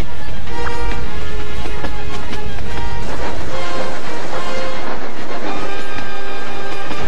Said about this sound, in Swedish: Tåget löper amok!